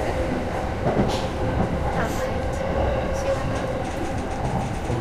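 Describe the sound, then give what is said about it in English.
A commuter train heading for Yurakucho station rumbles steadily along the tracks, a dense, continuous roar with faint rattling and a few brief higher metallic tones, fairly loud throughout. “The next station is 有楽町。 The doors on the left side will open.”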